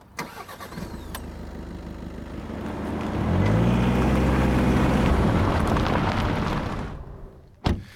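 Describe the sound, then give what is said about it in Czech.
A car engine turns over and catches, then revs up and drives off several kilometres to another lookout facing Veveří Castle, with a steady, rising hum before a door thuds shut near the end. No one speaks. “Tak my si pomůžeme autem.”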